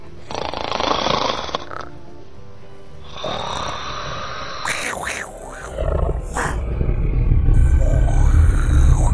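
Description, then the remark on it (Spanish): Loud, rumbling snoring from a wolf and a nightmare creature asleep after night work, repeating in long rasping breaths and growing heavier and deeper toward the end, prominent with no other sounds around it. “La niña se despierta con los ronquidos.”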